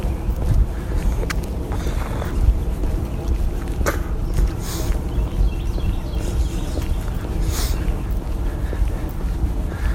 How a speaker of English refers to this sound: Notice the airplane that's going overhead in the distance.